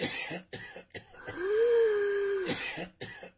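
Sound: coughing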